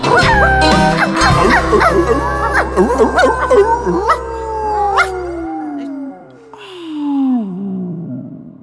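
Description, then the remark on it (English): A truck dog riding in a pickup howls loudly, its long wavering howls sliding up and down in pitch, ending in a drawn-out descending wail, over a low steady engine rumble for the first few seconds. “Yeah, who you gonna call? Truck dog.”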